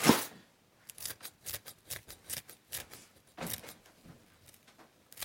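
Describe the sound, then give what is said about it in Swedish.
A rapid run of about a dozen crisp scissor snips cutting fresh dill, fairly quiet, with a louder rustle at the start and no voices. “Då tror jag att jag tar saxen.”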